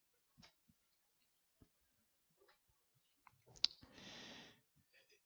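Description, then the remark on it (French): Faint, sparse mechanical ticks of a clock at uneven spacing, followed by a short whirring rattle of the clockwork before the ticking resumes softly. No one speaks. “De la belle horloge qui est au-dessus là, de la salle, vous avez vu là, dehors, dans le réfectoire, aux petites montres en plastique made in China ou aux Rolex”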